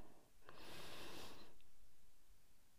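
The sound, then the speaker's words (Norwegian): A single long, deep inhalation during a guided breathing exercise, a broad airy rush lasting about a second that swells and fades, with no talking. “Da begynner vi med å puste inn.”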